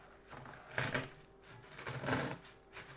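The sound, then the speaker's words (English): A grape being crushed, giving two soft, wet crunching bursts about a second apart, each crackly and squelchy, over a quiet background with no talking. “Look, I could crush a grape,”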